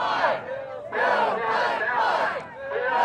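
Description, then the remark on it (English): A crowd of more than 500 people on a university campus in Harrisonburg, Virginia, protesting or supporting the Atlantic Coast Pipeline before hearings, roars and chants in loud, sustained bursts of many voices, swelling and dipping in waves, with no single speaker standing out. “where more than 500 people showed up to either protest the pipeline or express support for it.”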